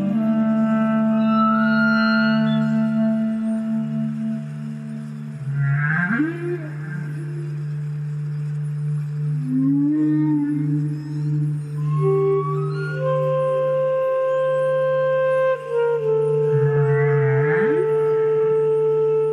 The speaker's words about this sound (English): And those were humpback whales you heard